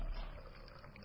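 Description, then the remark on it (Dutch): Water pours steadily into a container, a continuous splashing rush with a faint gurgle, lasting about a second with no voices. “Je wordt gevuld met levend water.”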